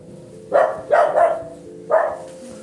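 animal, dog barking

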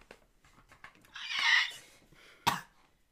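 human body sound, cough

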